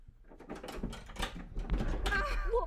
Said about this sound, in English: I was trying to get the door unlocked. Goddamn thing. Came swinging at me out of nowhere.